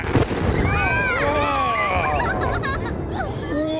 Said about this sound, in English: At Wallops Island, Virginia, investigators have spent the day picking through debris around a launch pad. Last night, crowds gathered to watch from a distance as an unmanned cargo rocket took off and exploded.